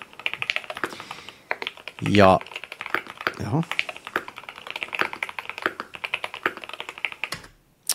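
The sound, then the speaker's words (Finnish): Rapid typing on a gaming keyboard with magnetic switches, a steady clatter of crisp keystrokes running throughout, briefly interrupted by a man's short spoken remarks. “Kirjoitustuntuma, hyvä, todella lähellä niin kuin premium-näppäimistöjä.”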